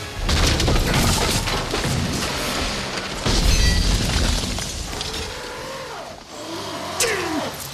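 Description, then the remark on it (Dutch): A car engine strains and revs as the vehicle skids on a muddy road at night in pouring rain, with heavy rumbling thuds midway, followed by a few rising and falling squeals near the end. “Hij moet de haven bereiken, maar in de nacht en de regen slipt hij op de modderige weg.”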